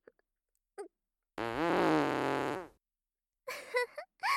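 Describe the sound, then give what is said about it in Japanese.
A single loud, drawn-out fart from a slightly constipated person, buzzy and wavering for just over a second, with a few brief quieter squeaks and rustles before and after it. “おっきいお尻の美人父兄さんのおなら。”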